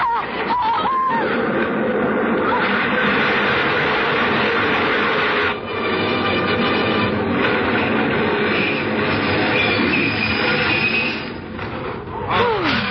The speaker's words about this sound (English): Oh, the train was in.